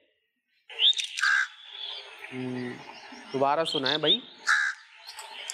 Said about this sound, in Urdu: کوا کیا کرتا ہے؟ ٹھونگے مارتا ہے. کیا کرتا ہے کوا؟ بعض اوقات ٹھونگے بھی مارتا ہے سر پہ، ایسے پنجا مار کے چلا جائے گا نا. تو یہ کوے کی آواز تھی، ان کا جواب درست ہے.